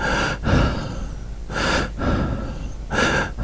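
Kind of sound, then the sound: human body sound, heavy breathing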